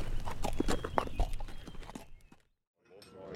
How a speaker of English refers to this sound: With tears in his eyes, he mounted Seven and rode away, pointing the nose of the big spotted horse north.